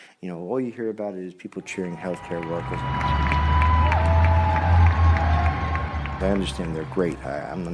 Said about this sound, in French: Tout ce que vous entendez, ce sont les applaudissements pour les personnels soignants.